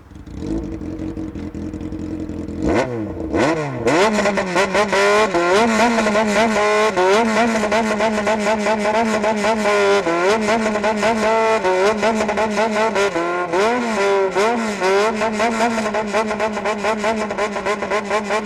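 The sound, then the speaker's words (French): A motorcycle engine revs loudly, its pitch swooping up and down again and again in a rhythmic, tune-like pattern as the rider plays music with the revs, after a quieter idling start. “Oulala, non mais qu'est-ce qu'il fait ce gars avec sa moto? Il roule des mécaniques en jouant de la musique.”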